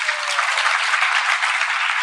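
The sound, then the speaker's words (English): A crowd applauds newcomers to the Evolve program as they stand up in their places, a steady, dense wash of many hands clapping, loud and sustained for the full couple of seconds without any voices breaking through. “Let us all give them a loud round of applause, please.”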